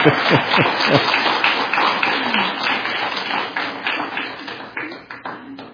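An audience claps for the speaker's wife and children in a steady, dense, crackling wash of applause that holds strong before thinning out and tapering toward the end, with a faint voice briefly audible underneath.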